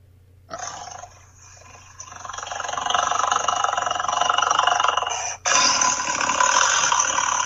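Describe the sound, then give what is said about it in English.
A voice imitates a tiger with a long, harsh, raspy growl that swells louder over several seconds, breaks off for an instant, then roars on steadily to the end. “A tiger sound.”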